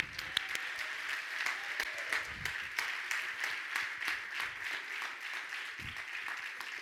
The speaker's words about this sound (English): Get a lot of hand clap.